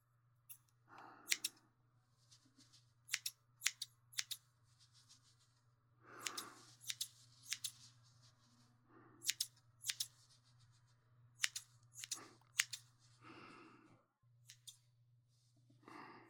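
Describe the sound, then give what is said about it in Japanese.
Crisp scissor snips come in quick bursts of two or three, separated by short pauses and soft brushing sounds, over a steady low hum with no talking, as sideburns are trimmed as the final finishing touch after blow-drying the hair. “最後の仕上げですね。もみあげを整えます。”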